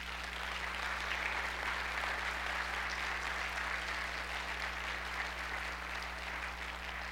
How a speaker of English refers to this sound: I want you to affirm that by recognizing who God is. Let's clap for him now.